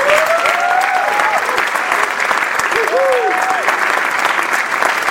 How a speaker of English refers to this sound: Please join me in giving another round of applause for all of our everyday heroes.